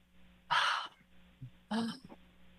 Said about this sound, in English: Yeah. And you all just deep breathe. That clears the energy around you.